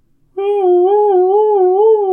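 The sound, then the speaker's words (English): A news alarm sound effect: a steady, mid-pitched siren-like tone with a slow, gentle wobble in pitch, starting abruptly after a brief hush and holding at an even loudness, with no talking. “Turn off the news alarm in the pre-dead castle. I can't hear.”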